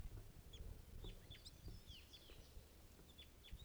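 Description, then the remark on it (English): A wild bird calls with a series of short, high chirps and whistles repeating irregularly over low rumbling background noise outdoors, with no voices present. “Wild bird here.”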